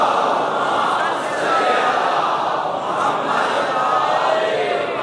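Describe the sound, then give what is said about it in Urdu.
A large crowd loudly recites salawat together in unison, "Muhammad and the family of Muhammad", a sustained, dense wall of many voices filling the space for several seconds with steady intensity. “اتنی بلند آواز سے ایک سلوات بھی نائب فرما دیجئے محمد و آل محمد.”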